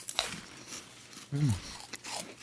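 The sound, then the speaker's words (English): Crisp crunching of puffy Japanese Cheeto cheese snacks being bitten and chewed, with sharp bursts scattered across a couple of seconds and a brief low murmur of a voice in the middle. “Okay, so get your Japanese Cheeto.”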